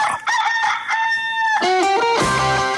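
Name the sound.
rooster crowing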